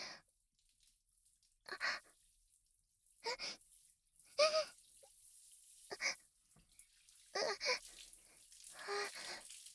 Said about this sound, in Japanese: なにこれ、すごい。シャワーの水圧だけでこんななっちゃうんだ。